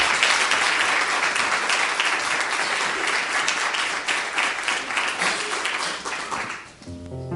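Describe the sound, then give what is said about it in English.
An audience at a church service claps steadily and loudly for several seconds for the young people, a dense, sustained patter of many hands that begins to thin out near the end. “Let's give them another hand of applause.”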